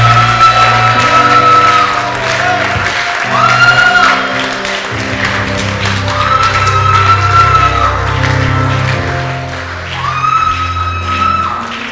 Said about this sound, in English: That I'm giving you another opportunity to mix the word with faith, with your amazing claps and your vociferous shouts for Christ, in the name of Jesus Christ.